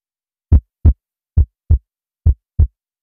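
Three pairs of low, thudding heartbeats in a steady lub-dub rhythm, clear against silence, each double beat separated by a short pause.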